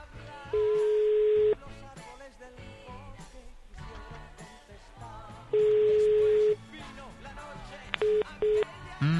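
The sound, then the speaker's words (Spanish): An outgoing phone call rings twice unanswered, with long steady ringback tones separated by a pause, then a couple of short beeps near the end, all over busy background sound and faint voices. “no puedo atender el teléfono en este momento”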